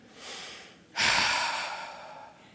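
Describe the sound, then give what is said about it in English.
A voice imitates a father's heavy, angry breathing as he comes home from work in a bad mood: a short breathy intake followed by a long, forceful huffing exhale that slowly trails off, with no talking. “I could tell he was in a bad mood just the way that he was breathing, right?”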